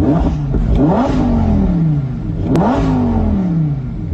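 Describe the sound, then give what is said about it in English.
The naturally aspirated V10 engine, with no turbos, of a midnight blue convertible revs up sharply twice, each throttle blip climbing to a loud howl before easing back down to a rumbling idle, with no talking. “So here's the thing you don't get with a lot of new cars is that sound, because this is still a naturally aspirated V10. There's no turbos or anything.”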